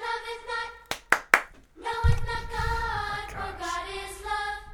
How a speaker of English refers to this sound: Here comes the clap.